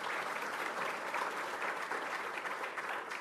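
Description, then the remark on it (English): Steady audience applause at the AHHA-ACHS conference for the AHHA staff, a dense wash of many hands clapping at even loudness with no voices on top. “So please, a round of applause for the AHHA staff.”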